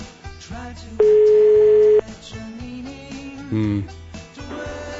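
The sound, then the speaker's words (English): A telephone ringback tone sounds once as a steady electronic hum lasting about a second, loud, standing out over busy background sound with no one talking. “Very important phone call, though.”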